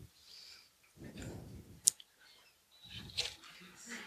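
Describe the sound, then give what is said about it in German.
A sharp click followed by two short bursts of low mechanical whirring as the receipt printer of a checkout system prints a receipt after Print is clicked, with brief quiet gaps between them. “ob der Bon ausgedruckt werden soll oder nicht. Soll heißen, würde Jonas jetzt auf Ausdrucken klicken.”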